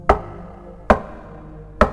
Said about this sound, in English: The last man sat alone in a room, and then there was a knock on the door.